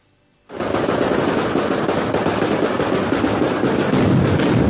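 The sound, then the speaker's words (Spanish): A mascletà firecracker barrage at the Almansa fiestas, recorded in an earlier year, bursts in after a brief silence: a dense, relentless rattle of loud explosions fused into a continuous roar with no talking. “Este no es sonido de este año, pero para que te hagas una idea de lo que se empieza a vivir mañana, el volteo de campanas, la mascletá, y a partir de ahí fiesta, retreta, y todo esto que va a pasar este fin de semana,”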